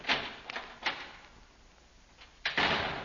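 A heavy prison cell door clanks and rattles as a guard opens it, with a few sharp metallic knocks followed by a longer grinding slide near the end, with no one speaking.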